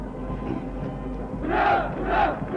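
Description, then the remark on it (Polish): A large crowd at the Koszalin May Day parade, on the stand and along the whole route, applauds and cheers a group of teachers marching past the stand. The roar is steady, with two louder swells of cheering and shouting near the end over a constant low rumble. “Gorącymi oklaskami wita trybuna, wita cała trasa koszalińskiego pierwszomajowego pochodu, liczną grupę nauczycieli przechodzących w tej chwili przed trybuną.”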